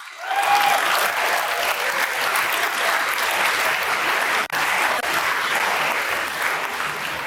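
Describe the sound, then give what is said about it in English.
A large audience of about 7,000 people applauds steadily for several seconds for four people retiring within five years, a dense, continuous wash of many hands clapping at once with no voices standing out above it. “Let's clap it up for the four old people.”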